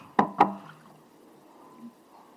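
Two quick, bright glassy clinks, then a short, soft trickle as water is poured into a glass, fading out with no talking.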